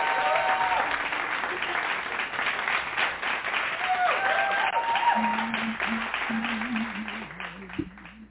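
audience hand clapping applause

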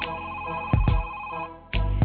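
telephone ringing

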